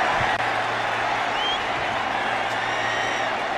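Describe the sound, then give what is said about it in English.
A stadium crowd at a Cowboys versus Minnesota Vikings football game cheers as Randy Moss races down the sideline into the end zone, a steady, dense roar that holds at the same loud level for the whole stretch, with no individual voices standing out. “Doesn't the crowd sound like they're Vikings fans?”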